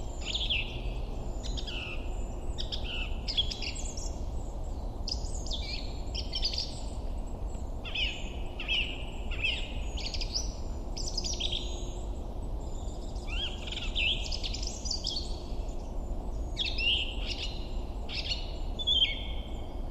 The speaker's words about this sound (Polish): Ale najpierw drozda śpiewaka nagramy.